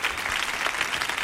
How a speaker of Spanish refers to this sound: ¡Fuerte el aplauso!